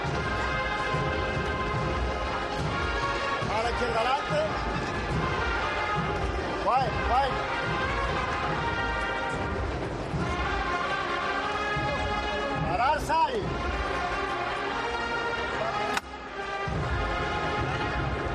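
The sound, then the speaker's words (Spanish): A single sharp knock from the knocker (martillo) of a Holy Week float (paso) in Seville cuts through near the end as the float stops at La Campana, briefly above a dense, loud wash of music and crowd sound, with some applause from balconies, that carries on afterward. “Hemos escuchado el martillo de Ramón Ariza.”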